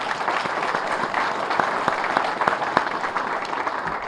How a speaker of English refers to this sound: So let's give the folks at IDOT also a round of applause.